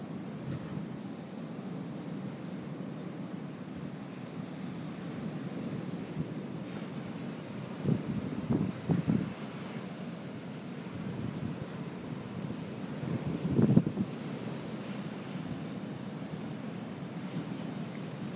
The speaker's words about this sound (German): Und vor uns tost der Atlantik. Wir halten uns ein bisschen in einem gesunden Abstand zum Wasser. Ich hoffe, man hört trotzdem ein bisschen die Macht der Wellen.